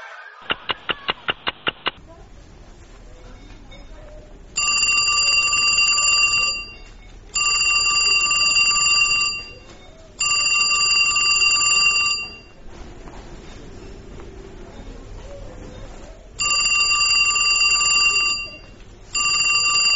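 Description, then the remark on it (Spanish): A telephone rings loudly in repeated bursts of about two seconds with short pauses between, after a quick rattle of clicks at the start, with no one talking. “Ay, perdón, no escuché el teléfono”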